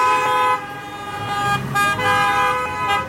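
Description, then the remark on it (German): Busy street traffic with car horns honking repeatedly and overlapping, sustained tones sounding over the steady rumble of engines, a loud, congested and chaotic parking jam, with cars parked two to three rows deep in front of food shops and drivers leaving their engines running while stopping for falafel. “Es gibt ein Parkchaos. In 2 bis 3 Reihen parken die Autos vor diesen Geschäften mit dem Essen.”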